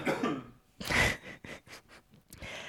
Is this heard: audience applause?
no